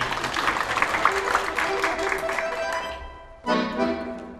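An audience applauds after a dance, a dense, steady wash of many hands clapping with crowd murmur, easing slightly before a brighter tonal sound cuts in near the end.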